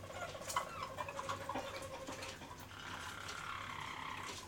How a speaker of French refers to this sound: Ça a la particularité, par contre, le Harz, de chanter le bec fermé, quoi. Et c'est pour ça que ça ne fait pas de bruit, quoi. Le chant du canari Harz est composé d'une série de sons et d'harmonies aux tonalités différentes.